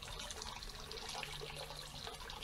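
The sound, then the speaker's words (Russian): A steady stream of water runs into a glass, filling it in about 15 seconds, a continuous splashing hiss that stays even in loudness throughout, with no voices. “Я не знаю, стакан, наверное, набрался за минуту.”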